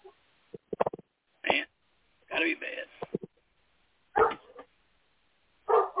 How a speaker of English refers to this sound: And of course the dog is barking. Oh my God, the neighbors, they came out of their own house. Oh my God. Hey man, you got a good dog there. I mean, he may be a little bit too trigger happy, but at least he makes an alarm.